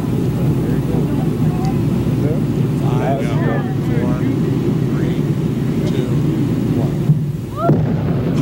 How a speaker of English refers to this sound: the blast blasted blubber beyond all believable bounds